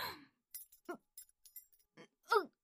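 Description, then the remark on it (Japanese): A bunch of keys jingles in short, irregular metallic clinks as it is used to undo restraints, bright and fairly faint, broken up by a couple of brief voiced sounds, one near the start and a louder one at the end. “おい、その鍵束は貴様が扱っていいものではない。”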